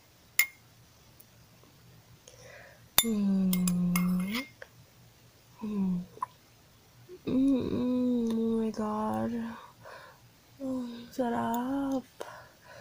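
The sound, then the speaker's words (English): Two spoons of ice cream are clinked together in a toast between roommates: a bright spoon clink rings out near the start, followed by a few more light metallic taps scattered among drawn-out, sung or hummed voice sounds and brief vocal noises. “Let's start spoons. To living like royalty. Cheers.”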